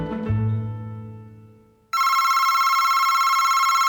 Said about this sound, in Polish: W gabinecie szefa miasta, który jest burmistrzem zwany, od rana dzwonił telefon.